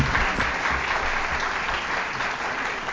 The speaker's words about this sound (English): Hey guys, thank you so much for coming out here, and if we can get another round of applause for our panelists.